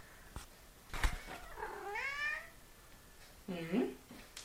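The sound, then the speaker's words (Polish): A cat meows twice, a drawn-out wavering meow followed after a short pause by a shorter, sharper one, with a couple of faint clicks before them. “przed momentem wstałem i słyszę, że ktoś mi tutaj miauczy, więc ciekawe, czy będzie miauczyć, jak wyjdę.”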